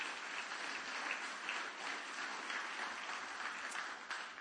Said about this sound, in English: Everybody give the Lord a good clap offering this morning. Would you do that?